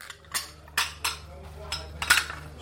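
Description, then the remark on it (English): Kitchen plates and pans lying in plastic boxes on the floor clink and clatter in a quick, irregular series of about half a dozen sharp knocks over a steady low hum. “Plates and pans are still lying on the floor in plastic boxes.”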